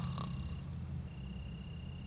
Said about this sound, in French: Dans la pièce du fond, le ronflement sonore du docteur Hérisson faisait grincer les lattes du plancher, vibrer les fenêtres et teinter les confituriers en porcelaine où les infirmières conservaient leurs remèdes.